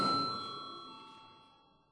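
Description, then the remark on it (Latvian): A single bright bell tone rings out with a sharp strike in a parliament chamber, rung before a vote, then its steady harmonic overtones fade slowly over two seconds, with no talking. “Lūdzu zvanu.”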